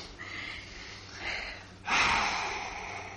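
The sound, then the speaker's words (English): A person yawns, with a couple of soft breathy intakes building into one long, loud, airy exhale that trails off gradually. No one speaks. “Go ahead and yawn.”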